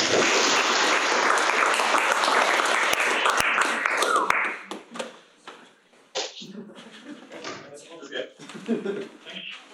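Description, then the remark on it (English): An audience bursts into loud, dense applause for the speaker at the end of a lecture's question session, holding steady for about four seconds, then quickly fading to scattered claps as people begin talking. “Let's give a warm applause to you.”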